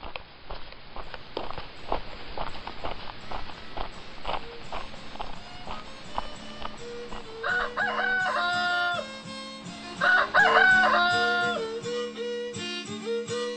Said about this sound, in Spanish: Se dice que con el canto de los gallos apareció el sol y él se convirtió en una estatua.